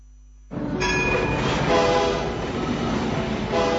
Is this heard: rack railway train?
yes